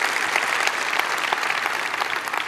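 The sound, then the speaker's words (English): An audience breaks into steady, dense applause, many hands clapping at once in a continuous bright patter with no pauses and no voices rising above it. “We should clap for that.”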